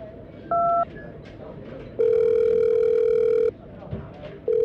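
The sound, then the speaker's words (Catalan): A brief electronic beep, then a long, steady telephone ring tone lasting over a second, with the next ring just beginning at the end. Faint background murmur sits underneath. “Truca qui calgui i som-hi.”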